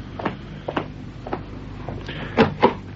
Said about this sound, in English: Open the door